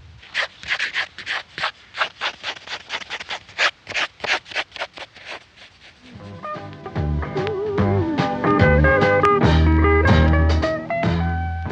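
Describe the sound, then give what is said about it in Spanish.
A pencil scratches across paper in quick, rhythmic strokes as someone draws, roughly twenty of them over six seconds, before a bright, tonal musical passage swells in and continues to the end. “Tomó lápiz y papel y comenzó a...”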